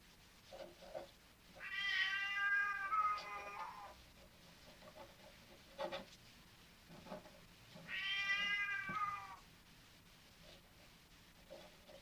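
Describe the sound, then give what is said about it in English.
A sable Burmese cat lets out two long, drawn-out meows several seconds apart, each rising and wavering, with a few faint clicks in between. “That's a Burmese.”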